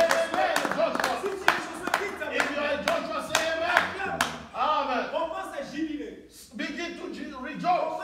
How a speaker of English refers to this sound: Acclamez. Clap your hands.